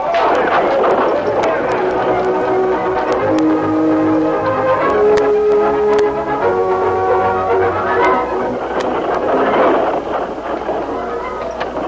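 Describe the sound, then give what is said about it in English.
A horse-drawn stagecoach rolls out of El Paso: a steady clip-clop of hooves over a continuous rumbling, with a sustained tonal layer underneath, loud and even throughout. “Dan and the kid were the only passengers as the stage rolled out of El Paso.”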